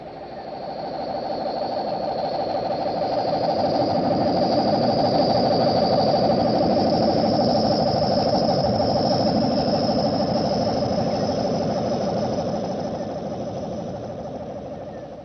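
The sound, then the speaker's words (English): A meteor's steady, rumbling roar with a flash of light over Maple Street, USA, on a late-summer evening swells up over a couple of seconds, holds loud with a droning hum and a thin high whine on top, then slowly fades near the end. “No, I didn't hear anything except a roar.”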